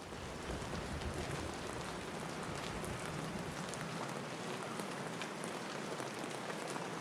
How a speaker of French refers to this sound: Ce jour-là, il pleut.